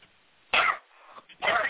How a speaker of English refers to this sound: Deep breaths now. Cough them out and they'll go. Take a deep cough all the way from the belly and they'll all come out.